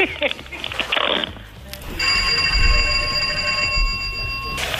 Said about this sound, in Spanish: Y toque el timbre de la casa para ver si se llega a acoplar el timbre de la casa con el teléfono.